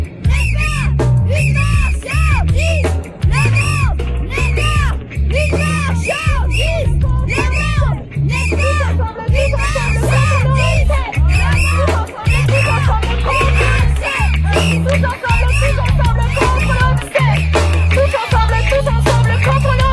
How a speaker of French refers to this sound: Pas assez de volume, pas assez de volume, ces voix. Hein, y a pas beaucoup de monde pour crier tous ensemble. Ouais, bon, y a quoi, une cinquantaine de manifestants. Et encore, selon les manifestants, y en a 20 selon la police.